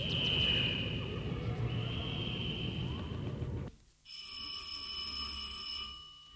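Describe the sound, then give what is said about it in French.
A school bell rings in a steady, shrill, metallic tone for about two seconds, after a stretch of loud, busy, rumbling background noise that cuts off just before the ringing. “La sonnerie retentit.”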